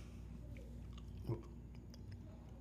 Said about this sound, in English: I can't believe I'm chewing gum on this shit.